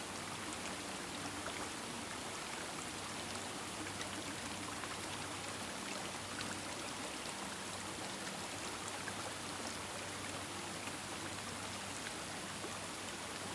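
Steady, dense rush of flowing water, like a stream running continuously over rocks, with a soft hiss and constant texture throughout and no voices.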